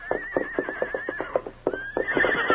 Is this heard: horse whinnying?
yes